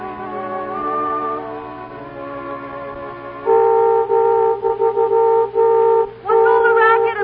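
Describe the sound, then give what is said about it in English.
A new car's horn honks: a steady droning tone gives way to loud, repeated blasts broken by short gaps, with no one talking over it. “I want to show you my new car.”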